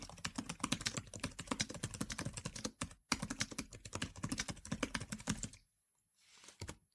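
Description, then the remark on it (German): Rapid, steady keystrokes clatter on a braille device keyboard, fairly loud, with a brief pause near three seconds and the typing fading out toward the end. “Aber die Tastatur lässt sich eben wirklich sehr flüssig schreiben.”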